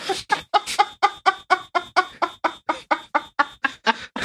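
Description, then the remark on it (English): A chicken clucks in a rapid, steady series of about seventeen short, nasal bursts, fairly loud, with no talking over it. “Chicken.”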